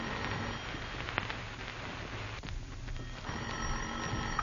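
An old-style telephone bell rings in an office in two long bursts separated by a short pause, fairly loud, over a steady hissing background noise.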